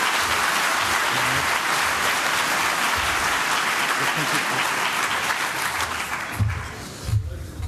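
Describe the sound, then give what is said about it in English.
Sustained applause from a sizable audience for the Lightning Talk presenters, a dense even patter of many hands clapping throughout, thinning slightly toward the end with a few low thumps near the close. “Huge round of applause for all of the Lightning Talk presenters.”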